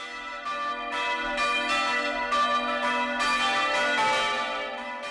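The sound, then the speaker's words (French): Easter church bells ring in a dense, overlapping peal, their rich metallic tones sustaining and blending into a steady shimmering wash with repeated strikes throughout, fairly loud and with no voices present. “Alléluia, Cloche de Pâques.”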